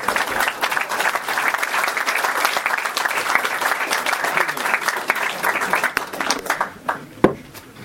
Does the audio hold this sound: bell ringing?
no